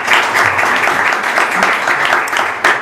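A crowd applauds steadily, a dense wash of many hands clapping at once, loud and sustained throughout without a break.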